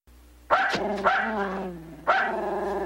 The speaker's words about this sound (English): Bad. Bad dog.